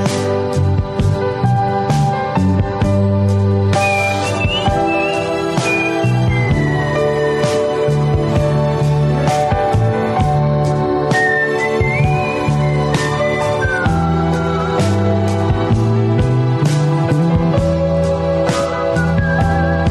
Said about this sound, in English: Now, this is some good whistling.